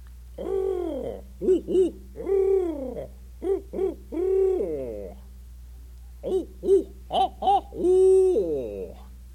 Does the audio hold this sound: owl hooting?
yes